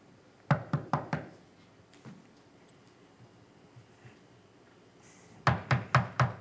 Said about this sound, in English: he went to the house of Elisha, and he knocks on the door